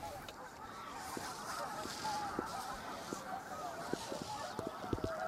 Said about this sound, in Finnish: Joo, tapahtumia riittää Pukkilassa. Äsken tuli 100 hanhia tähän alueelle ja valtava äänimaisema täytti kyllä sitten tämän alueen.